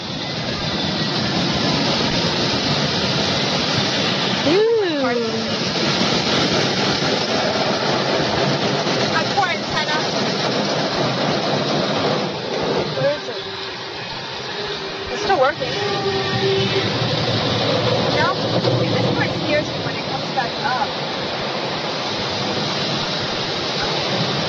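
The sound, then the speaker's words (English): Steady, loud rushing spray of water from the jets of a drive-through car wash fills the whole stretch, with muffled voices and occasional exclamations underneath. “She's scared of a drive-through car wash.”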